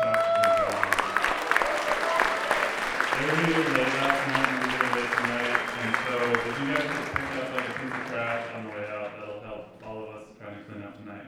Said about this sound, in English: So could you guys give them a big round of applause? And also, one more round of applause for the sound guys.